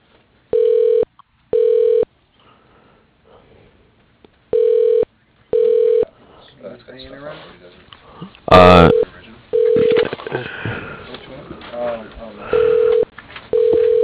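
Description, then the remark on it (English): Short electronic telephone tones beep in quick pairs, repeating at steady intervals, as a call to the Slope Inn is transferred to a phone in a different office; partway through, indistinct voices and a brief burst of noise join between the tones. “Sure, let me connect you to his phone. He's in a different office than here. Hang on one moment.”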